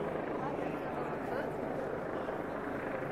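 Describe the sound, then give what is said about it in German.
A helicopter hovers overhead in Cologne during a large demonstration against the war, where it has been all morning; a steady, dense rumble fills the scene without letup, with a faint murmur of voices mixed into the constant drone. “Der Helikopter da oben, ist der schon lange da?”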